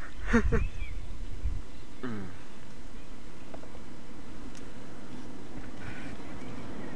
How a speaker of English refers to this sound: The birds aren't being as exciting now, so I think... Oh, yeah, they are.